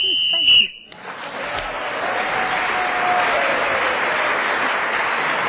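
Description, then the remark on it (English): A single shrill, steady whistle blast ending the round, lasting under a second, immediately followed by sustained audience applause and cheering that continues to the end. “So Linda Smith was speaking then as the whistle went, gained an extra point”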